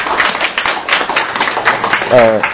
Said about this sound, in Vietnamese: Chúng ta một tràng pháo tay để gặp gỡ người anh em đang ở trước mặt chúng ta đây.